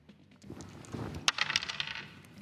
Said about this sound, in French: Vas-y, lance les dés.